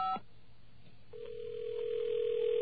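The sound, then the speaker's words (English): A brief electronic tone cuts off, then after a short pause a steady, continuous dial tone hums on as a phone call is placed to an account information line, gradually growing slightly louder, with faint line noise underneath and no talking. “Let me try it right now and see if we're able to get through.”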